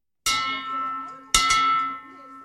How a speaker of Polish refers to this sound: Dzwon życia w Narodowym Instytucie Onkologii w Warszawie zabrzmiał po raz pierwszy. Jest 25. w kraju.